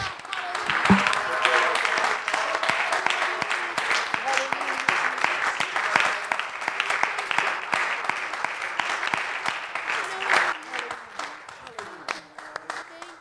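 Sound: audience applauding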